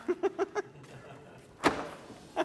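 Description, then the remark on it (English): A door latch clunks shut at a church with one solid thud that rings briefly, after a quick run of four short muffled sounds. Another faint knock follows at the very end. “If you can reach the door, just work the latch down.”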